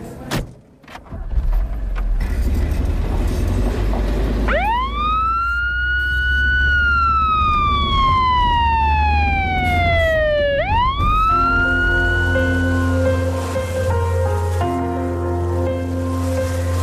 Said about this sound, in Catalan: Marxem cagant llets. Sirena a tope.